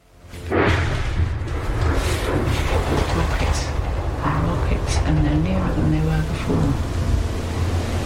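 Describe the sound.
An incoming shell explodes close by with little whistle before it, a sudden, heavy boom, then a loud, deep rumbling roar that lingers for several seconds while faint voices sound beneath it.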